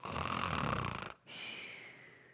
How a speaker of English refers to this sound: And what are Peter, James, and John doing? They're not, I mean, they may be on their knees, but they're not earnest in prayer. They're sawing logs.